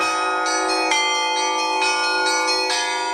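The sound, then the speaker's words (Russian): Church bells ring out loudly in a quick, steady peal, each strike arriving about twice a second over a rich, sustained wash of overlapping tones, with no voices. “Программа о колоколах, звонарях и не только.”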